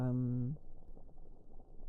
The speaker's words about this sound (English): put hot water in.